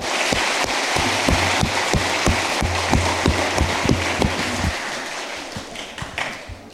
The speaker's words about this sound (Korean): 또 우리 찬양대도 하나님께 영광 돌려드리고 우리에게 큰 은혜 되도록 또 찬양해 주셨고, 오늘 이렇게 오버의 주일을 맞이해서 세대 통합 예배에 많은 성도님들 오셨는데 우리 모두 축하하고 또 자축하면서 박수 하나님께 영광 올려드릴까요?